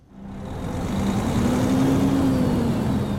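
A virtual truck engine in the game Euro Truck Simulator 2, driven with an Xbox controller, revs up from a quick start, its deep rumble slowly climbing in pitch and holding steady and loud for a few seconds, with no one talking.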